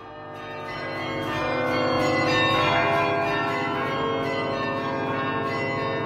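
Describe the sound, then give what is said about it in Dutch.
Carillon bells ring together in the Kempen in a dense, sustained peal, swelling in over the first couple of seconds and then holding steady and fairly loud, with overlapping tones and no voices. “En dan hoor ik nog klokken luiden in de Kempen,”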